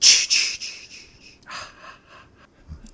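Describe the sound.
A voice imitates the whisper of Jason, the horror-movie killer: a quick run of sharp, breathy hissing syllables that fade out, then a second, softer run with a slight echo, caused by two people being in the same room.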